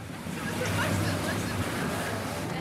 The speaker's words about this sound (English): A crowd of people gather at Gans Bay jetty, getting ready to board a small boat. They're going off cage diving with great white sharks, the world's largest predatory fish.